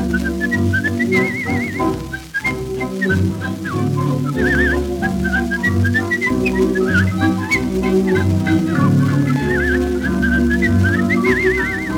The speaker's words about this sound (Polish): Czy ty gwizdać potrafisz? O tak, jeszcze jak?